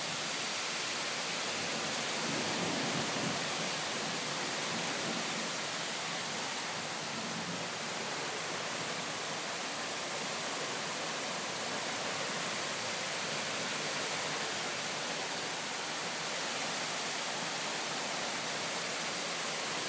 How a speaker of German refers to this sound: Aber Hammerhart, was für ein Regen. Boah. Und Wind, hammerhart. Und Regen. Boah.